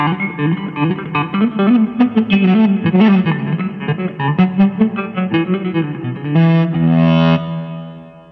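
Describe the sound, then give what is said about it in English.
An ebow guitar sustains smooth, singing notes, broken by quick accents from bouncing the ebow that give a stuttering, pulsed attack. The tone is effected and slightly gritty, fairly loud, and ends on a long held note. “Bounce the ebow every now and then for accents.”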